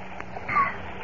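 nature, flowing stream water

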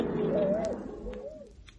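bird, bird calling

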